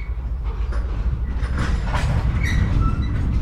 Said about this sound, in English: You can tell it's a depot because it sounds like this. You can hear the trains around you, and as you enter or leave a depot, you are told.